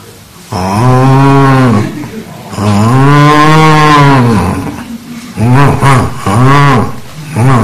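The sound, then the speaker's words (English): A person with a slight sore throat imitates a cow, letting out several long, loud vocal moos: two drawn-out bellows followed by a few shorter, wavering ones, with no other sounds. “Yeah, it's a cow. Was that okay? Well, I think I do better.”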